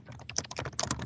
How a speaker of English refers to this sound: Listen to those keys fly.